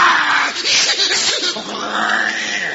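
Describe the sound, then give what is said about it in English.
Lions in a cage purr loudly in a harsh, raspy, continuous rumble that swells and wavers for about three seconds, with no talking over it. “They purr awful loud, don't they?”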